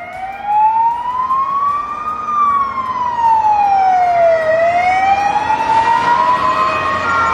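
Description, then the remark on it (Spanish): A fire engine siren wails loudly and steadily, its tone sweeping slowly up, down and up again, with a faint rumble of traffic beneath and no one speaking, as firefighters arrive to control a car fire on a road near Gijón, Spain. “Las llamas sorprendieron a muchos conductores, pero afortunadamente los bomberos llegaron rápido para controlar la situación.”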